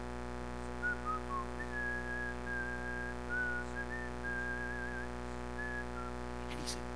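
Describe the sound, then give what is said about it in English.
A man in Romania whistles a slow, steady hymn melody, clear sustained tones gliding between notes over a constant low background hum, with a brief click near the end. “He's whistling Blessed Assurance.”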